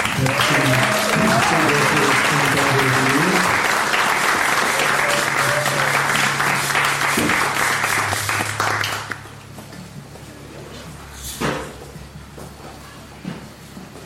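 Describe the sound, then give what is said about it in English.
A crowd applauds loudly with dense, steady clapping, some whistles and cheers mixed in, for about nine seconds before it drops off abruptly to quieter room noise with a few stray sounds. “Let's give it up”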